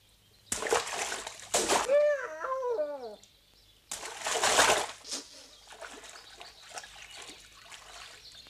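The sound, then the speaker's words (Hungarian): Several loud splashes of lukewarm water come in bursts in America, with a wavering high cry between the first ones and softer dribbling and sloshing trailing off afterward. “Langyos víz, jólét, napfény, gondtalan lubickolás.”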